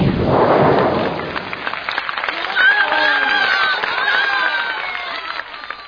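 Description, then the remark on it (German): A crowd claps and cheers continuously, a dense wash of applause with excited shouts and whoops rising over it, loud and steady throughout. The audience is applauding a magic trick in which the magician Zerfetti made the mayor vanish. “Die Leute klatschen und freuen sich, dass der Bürgermeister weg ist.”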